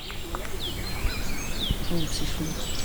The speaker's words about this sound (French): Il y a plein d'oiseaux qui chantent. J'essaie de vous en isoler.